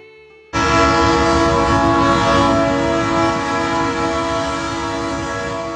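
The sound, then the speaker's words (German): The horn of La Bestia, the freight train in Mexico ridden by migrants from Central America, blares loud and sustained over the heavy rumble of rolling wagons, the blast starting abruptly and holding steady for several seconds. “Gemeint ist der Güterzug, mit welchem hunderttausende Migranten aus Mittelamerika jedes Jahr versuchen,”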